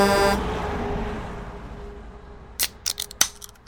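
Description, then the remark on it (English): A loud, brassy horn blares for a moment from a truck on a highway after a car cuts it off, then its tone fades away under road noise. A few sharp clicking snips follow near the end, with no voices. “She pulled out onto the highway, cutting off a truck who blared its horn at her.”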